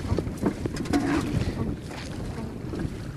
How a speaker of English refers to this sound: Now the day is extremely cold and wind is blowing and it's raining and we're in a boat. Travelling out on a boat.